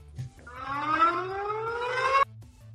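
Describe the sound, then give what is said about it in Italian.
A loud siren wails, its tone climbing steadily in pitch for nearly two seconds before cutting off abruptly, with a low rhythmic thumping pulse running underneath. “C'è un pezzo di Sirena Pride.”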